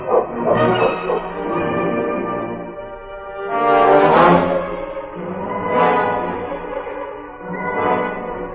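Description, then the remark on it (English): A sled dog team led by the dog King barks and yelps together in a loud, overlapping chorus as the dogs are roused, swelling in several surges over a few seconds, with no talking. “Get the dogs up.”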